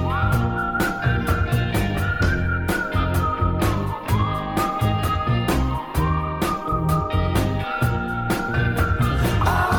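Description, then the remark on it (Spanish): A whistled melody glides over a full, loud band arrangement with steady percussion, the high tune sliding between held notes throughout the song. “El silbido juega un papel fundamental para muchos y muchas artistas a la hora de componer sus canciones.”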